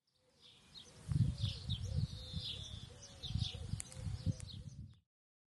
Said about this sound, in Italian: Esatto, è il cinguettio degli uccellini.